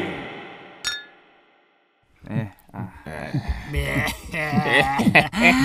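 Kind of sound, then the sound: household object, glasses clinking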